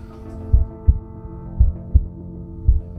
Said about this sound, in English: And it was so quiet that I could hear my own heart beating.